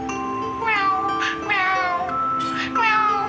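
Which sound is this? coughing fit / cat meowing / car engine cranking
cat meowing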